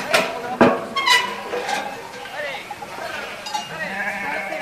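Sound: flock of sheep bleating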